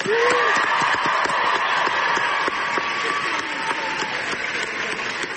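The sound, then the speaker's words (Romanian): A crowd of students at George Washington University in Washington, D.C., gives a loud, sustained ovation welcoming Greta Thunberg as she receives an Amnesty International award, dense clapping with occasional cheers and whoops rising above it throughout. “Luni, Thunberg a primit un premiu al organizației Amnesty International la Universitatea George Washington din capitala Statelor Unite, unde a fost întâmpinată cu ovații de studenți.”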